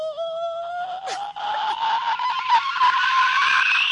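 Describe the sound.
A voice mimics a horror-movie screech: one long, shrill, strained tone lasting about four seconds, slowly rising in pitch and growing harsher and raspier toward the end.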